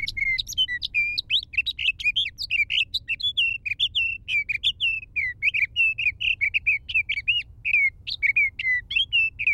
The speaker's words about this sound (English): When a sage thrasher, perched atop a clump of sagebrush, tips its head back to sing, the notes rush forth.